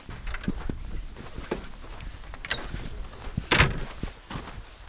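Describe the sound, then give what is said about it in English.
Two heavy reindeer-skin-covered doors set in a huge ice wall of an ice hotel are pushed open on a very cold night of minus 30 degrees, with soft rustling, scattered muffled thumps and shuffling, and one louder bump partway through, with no talking. “With that warning, I entered the Ice Hotel, passing through two reindeer skin-covered doors set in a huge ice wall.”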